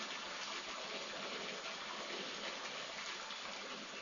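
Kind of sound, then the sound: nature, roaring waterfall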